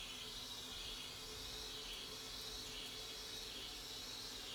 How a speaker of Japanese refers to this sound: はあ、この音も気持ちいい音。 ボイラーがごくごく水を飲んで、